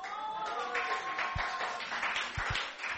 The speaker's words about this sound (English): So, you know, thank you for the hand claps. We were really excited to share the news with the church.